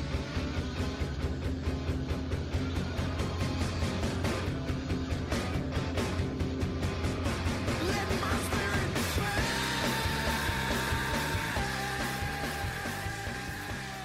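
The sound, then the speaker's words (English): A loud, dense rock track with pounding steady drums builds up, then breaks into a sustained, strained sung wail that rings out over the full band. “play when he screams, the build up, and then when he screams, let my spirit pass.”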